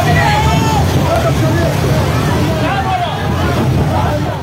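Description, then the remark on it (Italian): A noisy crowd of many voices shouting and talking over one another outdoors on the Gaza shore as people try to recover the solar panels from a beached, crewless flotilla boat, with a steady low rumble beneath, the commotion continuous and fairly loud throughout. “Quello che state ascoltando è il sonoro di un video ricondiviso dalla flottiglia e mostra alcune persone che tentano di recuperare i pannelli solari della barca, fondamentali nella striscia per la carenza di carburante.”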